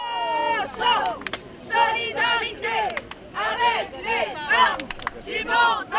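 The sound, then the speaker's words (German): A crowd of protesters in France chants in loud, rhythmic bursts, many voices rising and falling together in repeated phrases, with sharp claps or bangs punctuating the chant. “Mahnwachen für die Rechte der Frauen, Studentendemos für ungehinderten Hochschulzugang, streikende Eisenbahner.”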